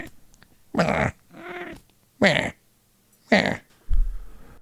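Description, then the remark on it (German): A cat meows four times in close succession, loud, each cry short and rising, with a low growling rumble at the very end. “Ja, die Katze ist auf jeden Fall auch mit dabei.”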